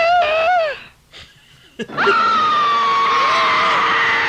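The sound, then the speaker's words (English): A woman in a horror film trailer lets out a loud, shrill scream, breaks off briefly, then launches into a longer sustained scream that wavers and holds at high pitch, piercing, with no talking. “Oh, when she screams in the basement, that was ridiculous. She had a bad scream.”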